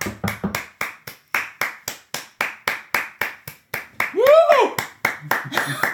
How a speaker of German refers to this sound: Du bist ja am Klatschen.